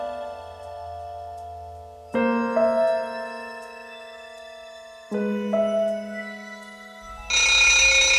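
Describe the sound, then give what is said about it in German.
An alarm clock rattles at 7 a.m., waking sleeping twins, with sustained electronic tones that shift pitch in a few steps, growing louder, ending in a harsher, brighter burst of ringing. No voices. “Um 7 Uhr wurden die Zwillinge vom Rasseln des Weckers unsanft aus dem Schlaf gerissen.”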